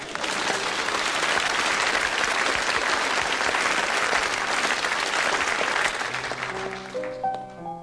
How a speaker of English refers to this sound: Please applaud now as it's a long walk back to the piano in silence. Thank you.